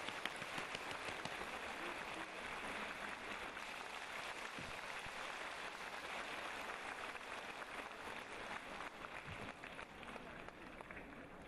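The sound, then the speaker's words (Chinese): Steady, dense applause from a large audience welcoming Master Lu Junhong to read totems on the spot, a continuous wash of many hands clapping at an even loudness for the whole stretch, with no voices standing out above it. “现在让我们用最热烈的掌声恭请我们尊敬的卢军宏台长为我们当场看图腾。”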